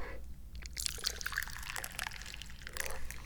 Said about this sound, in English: I'm the chairman, and I'm strangely proud of that, even though my only real duty is to pour the tea.